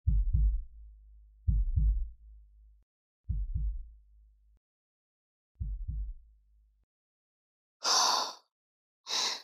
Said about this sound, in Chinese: 让我摸摸心跳。